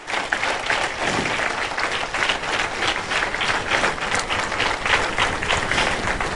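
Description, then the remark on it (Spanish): An audience at a church service breaks into sustained applause to heaven, to God: dense overlapping claps forming a steady, bright wash of sound that holds at an even, fairly loud level for several seconds with no speech. “Dale un fuerte aplauso al cielo, a Dios.”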